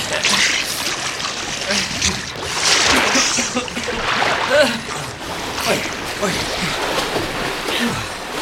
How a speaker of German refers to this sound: Wir müssen erstmal an Land. Am besten, wir schwimmen zur Vorderseite der Insel. Ja.